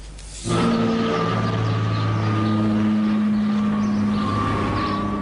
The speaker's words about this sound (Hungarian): Ezen az amatőr felvételen az látható és hallható, hogy milyen, amikor egy repülő elhúz Szigethalom felett.